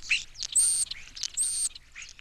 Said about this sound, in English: The starling, when thousands of other starlings join in, as they do when roosting in spring, they're called a murmuration of starlings because that's what they sound like.